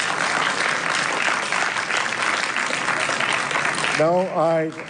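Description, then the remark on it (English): Members of the public at a council meeting clap steadily in a dense, even wash of applause for about four seconds. Then the clapping fades as a man's voice starts speaking over the tail end. “To members of the public that are here, as you know, there is no applause, no expression of your like or dislike as to the dialogue that is taking place.”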